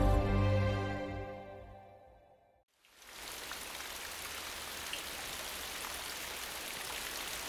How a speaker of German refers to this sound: In Inverness gießt es in Strömen.